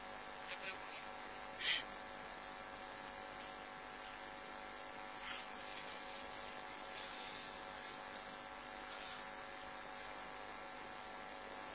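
An electric fan runs steadily with a constant whirring hum and faint tonal buzz, fairly close and even in level for the whole stretch, with only a couple of brief clicks and no clear talk.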